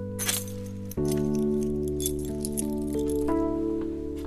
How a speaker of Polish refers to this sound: Klucz od domu. Od ich domu. Właśnie to jest taki drugi dom, gdzie jakby musiałaby gdzieś dalej uciekać, to właśnie mam klucz od tego domu.